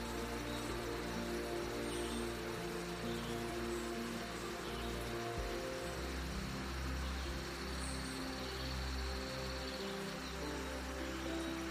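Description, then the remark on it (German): Steady rain patters through a dense rainforest, a soft continuous wash of drops on leaves with a low background hum and occasional faint rustling, no voices. “Vielleicht kommen hier auch Bilder auf, Erinnerungen an einen Besuch im Regenwald oder Filme.”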